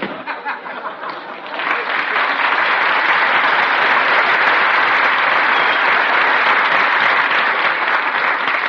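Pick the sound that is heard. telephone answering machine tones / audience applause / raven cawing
audience applause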